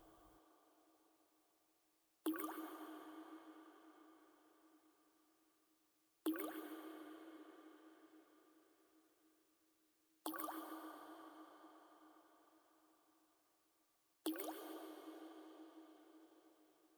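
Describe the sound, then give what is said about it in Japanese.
Single drops of water fall at a slow, steady pace, about every four seconds, each landing with a hollow, resonant plink that rings and fades away into quiet. “水音を聞いてるだけで、だんだんと、意識が遠くなっていく。”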